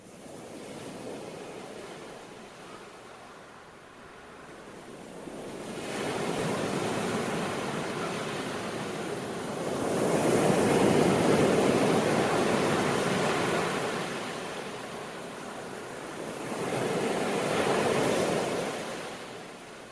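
Ocean waves break and wash ashore in a slow rhythm, three broad surges of hissing surf rising and fading over a constant background roar, with no voices.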